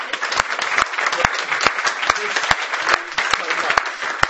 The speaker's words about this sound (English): Are we allowed to give you a round of applause? That's fantastic.